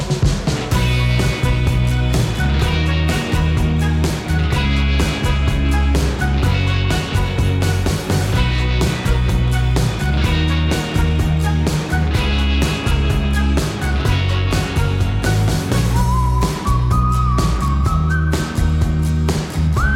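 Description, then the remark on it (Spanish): The signature jingle of Nivel de Vuelo 4, the drone section of the aviation show Aerovía, plays throughout at steady volume, with a driving rhythmic beat, a full bass line and bright melodic notes, with a sustained higher tone entering near the end. No one speaks. “Sintonía de nivel de vuelo 4, de a 120 metros nuestra sección sobre drones”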